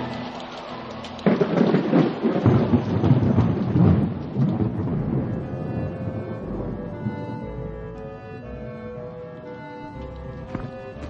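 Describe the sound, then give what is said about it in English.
A thunderstorm: a loud rumble of thunder breaks in and rolls for several seconds over steady rain, then fades back to a continuous downpour. “You do what you want, Ned, but I'd rather take my chances there than out in this fabricated storm.”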